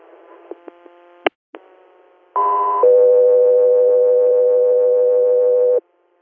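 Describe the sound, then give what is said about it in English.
A few short clicks and pops, then a loud steady electronic tone that abruptly shifts to a second, lower sustained tone lasting several seconds, a two-tone radio dispatch alert for the Guthrie Air crew over a faint hum. “Guthrie Air, stand by for tones.”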